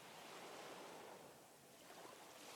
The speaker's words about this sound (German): Ihr achtet auf die Bewegung der Wellen, hört dem Rauschen der Brandung zu.